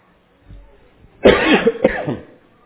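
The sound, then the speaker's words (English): A person coughs twice in close succession during a sermon, two harsh, loud bursts, with a quiet lead-in before them and silence after. “If I keep coughing, I might just have to announce the invitation song or have Glenn get up and finish this sermon.”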